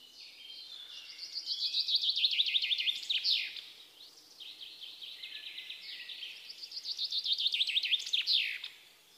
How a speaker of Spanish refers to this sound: El pinzón es un pájaro muy estimado, canta en el bosque, canta muy variado y junto con la alondra es el pájaro que se asocia más con la primavera. Ambos son pájaros migratorios. Escucha el pinzón.